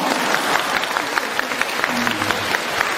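A crowd applauds steadily for a few seconds, dense overlapping claps, with a faint tone briefly audible underneath.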